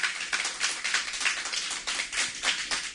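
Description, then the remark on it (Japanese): An audience at a singer-songwriter's live show claps together when asked, a steady crackling wash of many hands that swells and dips slightly over three seconds without stopping. No voices are heard. “ちょっと拍手でどんな感じで今日、ね、お客さんとかいらっしゃると思うんですけど、ちょっとご確認させていただいてよろしいでしょうか。”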